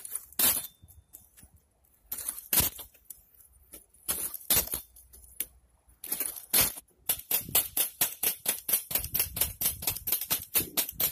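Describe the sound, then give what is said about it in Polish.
Small feet striking concrete while hopping: crisp, clicky taps, scattered and irregular at first, then a quick, steady run of repeated hits. No voices. “To, że on tak teraz skacze, tak podskakuje i słyszymy uderzenia o beton tych jego nóżek, to się w kanale może przydać, takie coś?”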